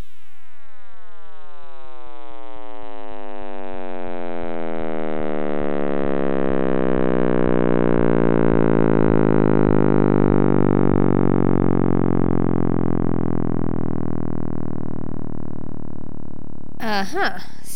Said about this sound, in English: That was actually an audio rendering of new measurements of the cosmic microwave background radiation